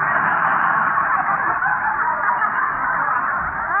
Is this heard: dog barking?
no